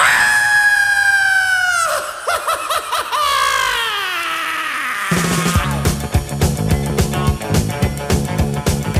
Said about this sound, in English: I'm gonna scream and scream and scream again.